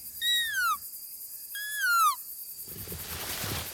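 A whistle blown through a leaf, plucked from a bush in the jungle and held between the lips, gives two shrill, falling notes, each about half a second long with a brief pause between, followed by a soft rustling hiss.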